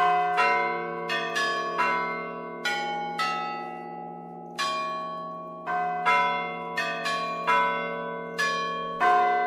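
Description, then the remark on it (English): Russian tower bells at Lowell House, Harvard, rung by students, play a film theme melody, one note after another in an uneven rhythm, each strike ringing on with a long resonant hum, with no voices present. “The bell ringers have been practicing this theme music from the Harry Potter films for months.”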